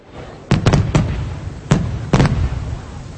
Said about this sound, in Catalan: enceníem focs d'artifici al carrer.